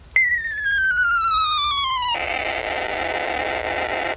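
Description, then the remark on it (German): A bright electronic beep from a man's one-of-a-kind wristwatch, which sounds when the hour is full, glides steadily downward in pitch for about two seconds, then gives way to a sustained noisy hiss. No one speaks. “In Wirklichkeit war es die Uhr. Die Uhr, die ihr Mann immer trug.”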